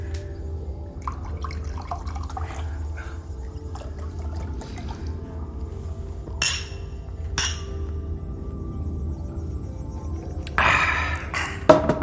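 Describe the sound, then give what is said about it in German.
A glass of Drachenblut is set down with a few sharp clinks spaced over several seconds, ending in a brief cluster of clattering, over a steady low hum with no talking. “Könnten wir ein Glas Drachenblut haben, bitte?”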